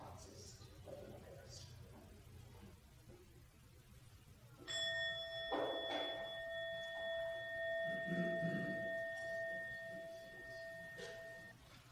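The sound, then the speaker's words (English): A hush, then a single bell is struck once to end a minute of silence and rings out clearly, its bright sustained tone lingering for several seconds over faint rustling and soft background noise. “So let's just take a moment of silence, just sit with this, and then I'll bring the bell after a minute, and then I'd love to hear some comments and reactions.”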